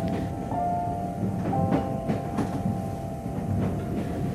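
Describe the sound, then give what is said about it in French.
A train bound for Sésame-du-Lac running on rails: a steady, loud rumble with a sustained high whine, broken by several sharp, irregular clacks from the wheels. No voices. “Merci de libérer votre imagination en laissant votre sérieux et votre mauvaise humeur à l'extérieur de ce train.”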